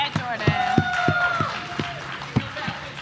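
Steady, rhythmic clapping from an audience, about ten sharp claps at an even beat, with a sustained vocal whoop or cheer gliding over the first half.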